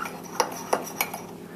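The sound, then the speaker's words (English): A spoon stirs batter with cocoa and a newly added egg in a bowl, with a handful of light, uneven clinks as it knocks the bowl's sides over a soft scraping background; no one speaks. “Now add an egg. Now give this a nice mix and mix this in thoroughly.”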